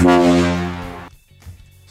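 A single loud, brassy quiz buzzer horn for a radio show's true-or-false challenge blares for about a second, rich and buzzy, tapering slightly before cutting off abruptly, leaving faint low rumbling afterward.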